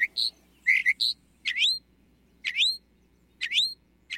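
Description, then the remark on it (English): A mockingbird sings alone: a few quick varied chirps, then three loud, repeated rising-and-falling whistled phrases spaced about a second apart, bright and high-pitched over faint low hum. “With such extensive knowledge of the great American songbird book, mockingbirds really are the crooners, or croakers, of the bird world.”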